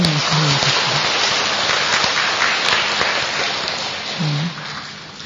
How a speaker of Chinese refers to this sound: 我们给他一个鼓掌哈。